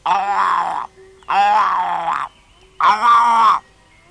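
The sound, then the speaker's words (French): A boy's voice imitates a tiger's roar: three loud, drawn-out growling bursts, each under a second, separated by brief pauses, with no other sounds. “Et Sudhi lui répondit en rugissant.”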